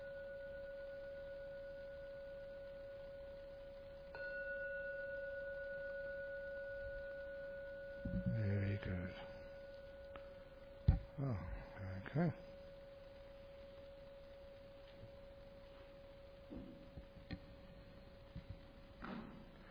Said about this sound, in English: I'm now going to ring the gong 3 times to conclude the meditation. Please wait till the last ringing of the gong disappears.